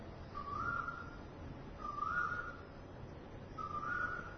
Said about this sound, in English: Listen to the cuckoo.